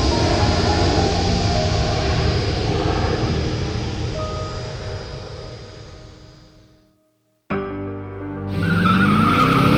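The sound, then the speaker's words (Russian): The 575-horsepower engine of a white Jaguar roars loudly and slowly fades, cuts out for a moment, then bursts back and revs up with a rising pitch as tires squeal, driven hard ignoring all traffic rules. No one speaks. “Выжимал из своего белого Ягуара все его 575 лошадиных сил, в первый раз в жизни игнорируя все правила дорожного движения и автоматически подсчитывая в уме штрафы.”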